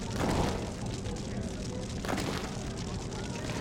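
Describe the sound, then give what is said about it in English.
A bonfire roars and crackles in a steady, dense rush of noise, with two brief whooshing flare-ups, one near the start and one midway through. “There's a bonfire here.”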